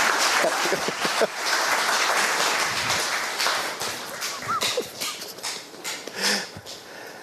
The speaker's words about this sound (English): Hey, give our actors a round of applause as they find their way back.